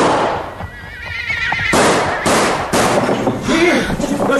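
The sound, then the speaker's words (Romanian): A cavalryman's horse whinnies with a shaky, wavering cry, then loud, sharp pistol shots crack, several bursts in quick succession with ringing noise between them. “de ce ai tras?”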